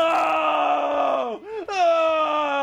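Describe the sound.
A man's voice imitates a loud, drawn-out climaxing scream, a strained sustained wail that dips briefly and then surges back higher and louder, with no other sounds.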